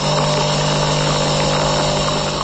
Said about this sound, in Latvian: Tā skan mūsu iepriekšējais kafijas automāts.